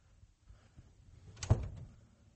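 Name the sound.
door opening or closing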